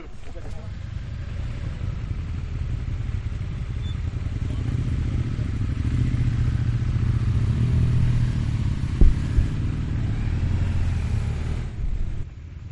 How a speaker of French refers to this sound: Là, on part pour 30 minutes de moto.